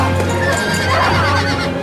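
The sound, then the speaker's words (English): Horses whinny loudly while hooves clop steadily underneath, a dense, busy burst of neighing and trotting with no talking, as riders fight off the remaining guards and jump onto the horses. “They fight off the remaining guards and jump onto the horses.”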